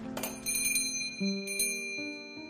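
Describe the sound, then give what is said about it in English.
A small bell over a shop door jingles and rings several times in quick, uneven strikes as someone enters the shop, bright, with its tones lingering and overlapping. No one speaks. “found the small bell over the door quaint and musical as it announced her arrival.”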